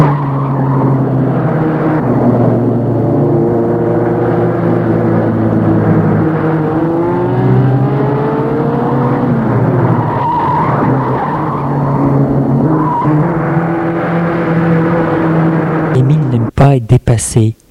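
A car engine roars at high speed, its pitch sweeping up and down as vehicles race past up close, with squealing tire tones and a few abrupt bursts at the end.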